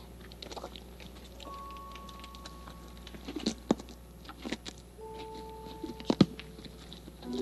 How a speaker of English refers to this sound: Big teeth to chew the big carrots. Now, are you interested in some oats? Would you be interested in some oats to eat? He's chewing. Can you chew the way a horse would chew?